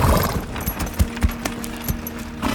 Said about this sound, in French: Oh, oh. Tout doux, mon beau cheval anglais. Tout doux.